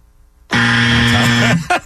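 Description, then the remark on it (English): A loud, harsh game-show buzzer blares for about a second, followed by a brief second burst, marking a wrong answer to a quiz question, prominent with no talking over it. “Oh, I got the double buzzer.”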